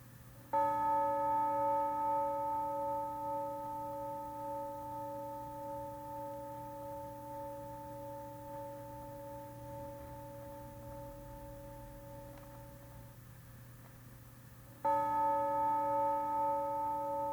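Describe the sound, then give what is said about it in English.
A meditation bell is struck during a guided meditation and rings with a long, steady, layered tone that slowly fades over several seconds, then a second strike sounds loudly near the end. No one speaks. “Now stay with the sound of the bell as it rings three times.”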